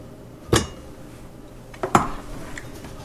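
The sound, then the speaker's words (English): Cooked carrots land in a blender jug with two sharp knocks about a second and a half apart. A faint clink follows the second. No talking. “So here I have my carrots that are cooked. I put them in my blender.”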